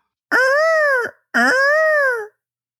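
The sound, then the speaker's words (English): A person imitates a peacock call with two loud, nasal wailing cries, each just under a second long, rising then falling slightly, separated by a short pause. “Look, can I do a peacock? Because that's what I hear all day.”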